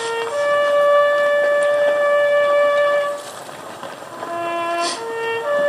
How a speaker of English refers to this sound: And the taps were played.